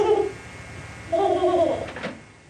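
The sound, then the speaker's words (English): Soft, cooing vocal sounds from a four-month-old infant, recorded for a study of 4-month-old babies by psychologist Lisa Oakes: a brief coo at the start, then a longer, wavering coo that rises and falls in pitch before trailing off. No words are spoken. “This is sound from a study of 4-month-old babies done by a psychologist”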